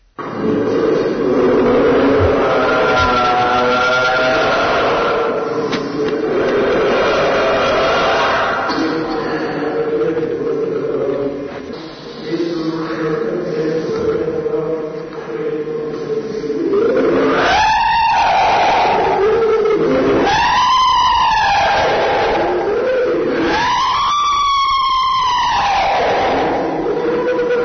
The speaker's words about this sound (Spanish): parece que correspondería a una joven de 16 años que lo pasó francamente mal cuando se le hacen este tipo de rituales para expulsar a esos supuestos demonios con los gritos de esta pobre chica que ahora pasaremos a escuchar.